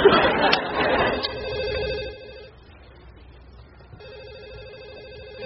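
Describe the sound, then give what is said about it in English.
A telephone rings in two electronic bursts separated by a short pause, following a brief stretch of busy, noisy background chatter at the start. “I never have to answer that phone again.”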